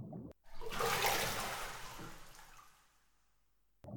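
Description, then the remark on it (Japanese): Someone wearing a swimsuit climbs into a bubble bath: a single surge of sloshing, swishing water that swells quickly and then slowly fades away, with no voices. “それじゃあ中に入りますね。”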